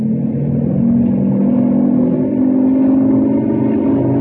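A helicopter engine revs up for a dry run, a loud, steady mechanical drone with a low humming tone that firms up after the first second and holds without pause. No one speaks.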